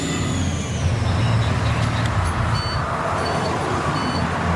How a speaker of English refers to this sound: You hear that sound? If I open the door, the bus make a lot of noise. I can't open the door with that.